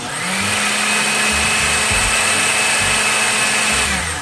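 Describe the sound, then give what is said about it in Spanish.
A blender runs steadily for about four seconds, blending a passion fruit filling with lemon zest: a loud, constant motor whine with a high pitched hum on top and low churning rumbles from the mixture, no voices. “Ahora sí, llegó el momento de licuar.”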